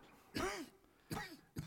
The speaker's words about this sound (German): Sag, wie lange hast du diesen Husten schon? Meinem armen Freund war es unmöglich zu antworten, mehrere Minuten lang.